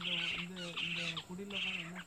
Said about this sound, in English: What birds are those? They're owls? Owls, yeah, I thought so by the sound. You hear them in the night also. They come out at this time, which also makes you think. You don't see them much, eh? You hear them more.